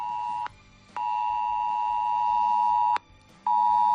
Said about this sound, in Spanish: Es el ya famoso mensaje S-Alert, que ha sonado en móviles de miles de extremeños por esa alerta roja, que ya se ha rebajado, es lo importante, pero que ha causado evidente preocupación en la población.